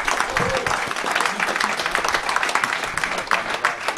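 Sustained audience applause thanking a man for his work, a dense steady wash of many hands clapping with a few sharper claps standing out, holding at an even loud level for several seconds.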